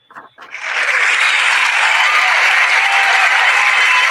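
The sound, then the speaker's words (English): Loud, sustained applause from a huge crowd swells up within the first half second and holds steady as a dense, roaring wash of clapping, like a packed stadium cheering. “That was a big crowd, man. You got different applauses. That was stadium crowd.”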